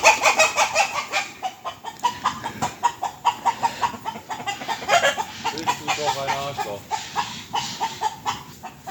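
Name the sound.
rooster clucking and crowing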